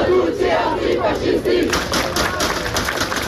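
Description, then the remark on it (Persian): A large crowd of protesters in France, demonstrating against the killing of a 17-year-old, shouts and chants loudly and continuously, voices overlapping in a dense roar, with sharper bursts of yelling rising toward the end. “تظاهرات در فرانسه در اعتراض به کشته شدن یک جوان 17 ساله ادامه دارد.”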